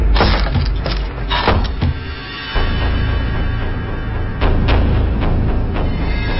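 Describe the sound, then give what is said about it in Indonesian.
A wooden door bangs shut again and again in uneven bursts, each slam a loud, sharp thud, with a steady low rumble filling the background between the hits. “Sampai tiba-tiba terdengar suara pintu kayu dibanting berulang-ulang.”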